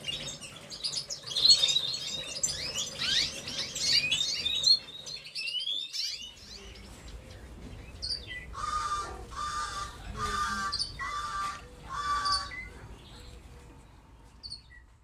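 Busy, high-pitched chirping from caged birds fills the first several seconds, then four loud, harsh squawks ring out in a slow series, over a faint low background rumble.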